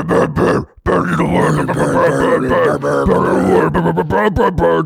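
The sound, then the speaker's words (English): A voice imitates a Norwegian surfing death metal growl: a loud, gravelly, sustained roar broken by one brief gap, harsh and rumbling with wavering pitch, lasting several seconds without words. “Yeah, the classic is a sort of nightmarish growl.”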